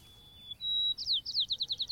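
A sparrow living near the Golden Gate Bridge sings its mating song alone: a thin, steady whistled note, then a higher one, breaking into a quick run of about eight repeated descending chirps, clear.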